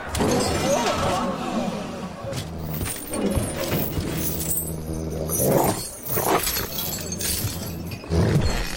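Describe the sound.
A captured wolf growls in a deep, sustained rumble, mixed with loud crashing and shattering noises and a voice talking at moments.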